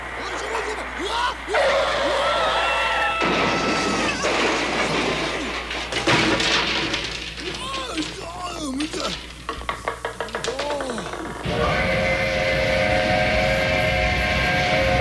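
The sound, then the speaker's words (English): A train arriving in Carbondale rumbles and clatters loudly, a busy mechanical din building steadily, then a long sustained whistle blares over the noise near the end. “Yes, the train is bringing the way past the last Carbondale Spring Talent Show to town on May 15th and 16th.”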